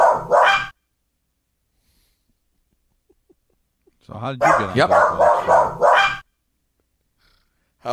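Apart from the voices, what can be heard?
dog barking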